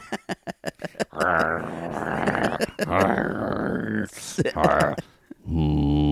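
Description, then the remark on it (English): An excited dog on a beach grunts: a quick string of short snorting puffs, then a long run of strained, whiny grunts and groans, fairly loud and continuous. “This dog is excited.”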